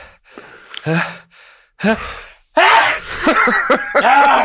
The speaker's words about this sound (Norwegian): Jeg må nyse. Nå kommer den.